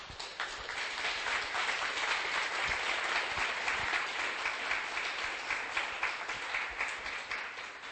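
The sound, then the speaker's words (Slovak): A church audience applauds for Jesus, many hands clapping in a dense, sustained wash of sound that holds at an even level for several seconds without talk. “Zatleskajme Ježišovi teraz.”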